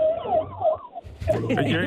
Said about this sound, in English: No, do you hear that? No, an ambulance just squeaked by us.